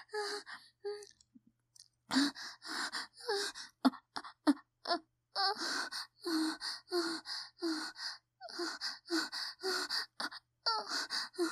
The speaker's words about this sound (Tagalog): Umiiyak ang bunso ko, teka. Teka, kailangan niya ako.